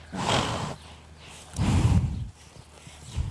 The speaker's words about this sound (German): Am Ende unseres Rundgangs schnaubt ein Pferd des Waldhofs in unser Mikrofon.